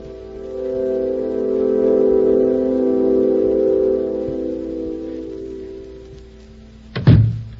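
A low, steady droning hum fills the first several seconds and slowly fades, then a single heavy thud of a door shutting lands near the end, sharp and loud.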